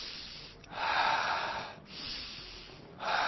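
A person breathes loudly and theatrically, three drawn-out airy breaths in a slow rhythm with short pauses between, breathy, imitating a puppet's breathing. No words are spoken.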